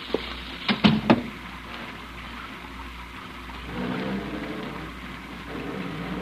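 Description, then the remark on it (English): Steady rain hisses throughout, a soft, even wash of noise, with a few sharp knocks near the start and no voices. “Well, I think you better get out of the rain.”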